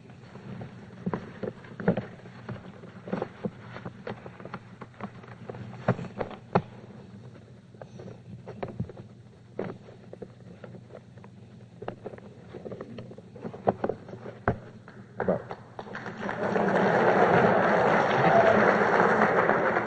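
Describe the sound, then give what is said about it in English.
A sheet of paper being folded into a paper boat, with scattered sharp crinkles and creases at an uneven pace, ending in a few seconds of louder, steady rustling. “This piece of paper I shall now make into a boat.”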